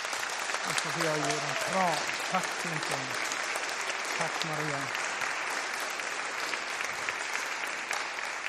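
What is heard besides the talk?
audience applause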